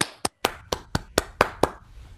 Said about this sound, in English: Yeah, so let's all unmute to give him a round of applause.